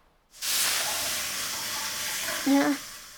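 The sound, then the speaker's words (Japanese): Aroma water poured by a sauna heat-wave attendant in a private sauna room splashes onto hot sauna stones and sets off a loud burst of hissing steam that holds steady for a few seconds, with a brief whistling tone near the end. “それじゃあ蒸気失礼しますね。”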